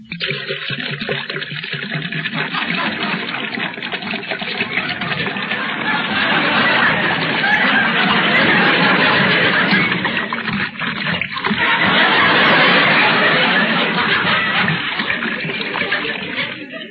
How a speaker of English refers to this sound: There's such a lump in my throat, I'll have to wash it down. Well, I'll pour myself a glass of water.